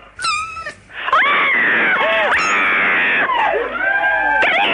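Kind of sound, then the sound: animal, cat crying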